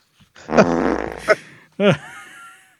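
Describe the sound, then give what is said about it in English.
A long, loud, sputtering fart sound effect with a rippling buzzy texture, triggered from a soundboard button, followed by a short squeaky blurt a moment later, crisp and clear. “Oh, I broke the fart button.”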